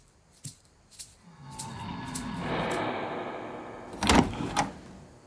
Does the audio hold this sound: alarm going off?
no